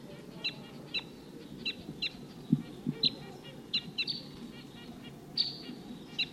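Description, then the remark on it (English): A flock of wild birds up above gives a dozen or so short, high 'tooping' chirping calls in loose bursts, some overlapping, over a steady low rumble of background noise. “That's wild bird up there.”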